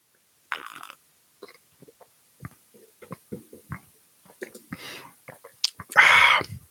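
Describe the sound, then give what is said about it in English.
Sipping of hot peppermint tea from a cup: scattered soft mouth clicks and breaths, then one loud, airy slurp near the end, with no talking. “Let me have a sip of my peppermint tea, please.”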